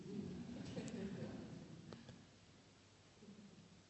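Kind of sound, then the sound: bird, bird calling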